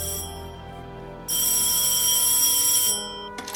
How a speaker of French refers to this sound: L'homme décroche son téléphone et compose un numéro anglais. À l'autre bout de la ligne, son interlocuteur lui répond.